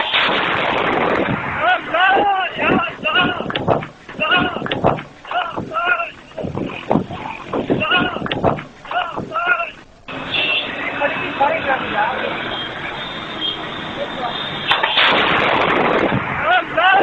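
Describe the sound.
A heavy explosion, the second blast, recorded on a mobile phone camera, booms through a tinny recording as a fireball rises, with a roaring rumble and wind-buffeted noise after it, while agitated voices shout before a second loud burst near the end.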